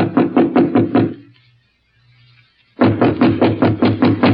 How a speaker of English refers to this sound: Standing at the door, he hesitated. Then, squaring his shoulders, he knocked.